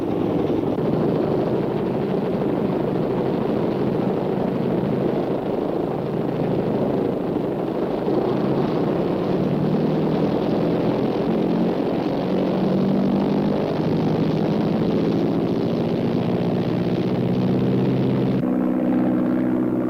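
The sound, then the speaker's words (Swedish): A steady, droning propeller engine roars continuously as a reconnaissance plane carrying an aerial camera flies off to photograph strategically important sites, its pitch shifting slightly, with a sudden drop in the upper tones near the end. No voices are present. “Den hypermoderna flygkameran lastas ombord på planet som sedan ska surra iväg för att ta närgångna bilder av flygstrategiskt viktiga punkter.”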